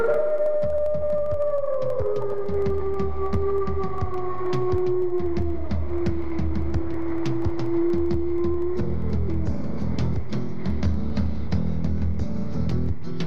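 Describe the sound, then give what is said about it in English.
A mammal howls at night, a long, mournful howl gliding slowly downward in pitch for several seconds, carried over a steady low rumble, with a softer wavering tone trailing off near the end. “At night they howl at the moon.”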